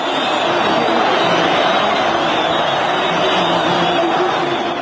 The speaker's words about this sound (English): I mean, here first, this was February 2011. There was so much global excitement about those massive crowds in Tahrir Square, forced out, ultimately, the dictator Hosni Mubarak. Here was some of that sound, 2011 February.